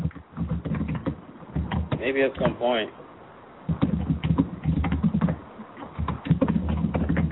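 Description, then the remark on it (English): Rapid, steady clatter of computer keyboard keys being typed, with quick irregular clicks running throughout and a brief voice rising over them partway through. “Wow, you are doing some serious typing over there.”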